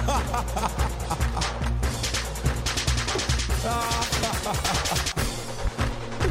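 Rapid, loud bursts of gunfire crackle almost nonstop, sharp shots piling over one another in a dense barrage with a rumbling, busy background.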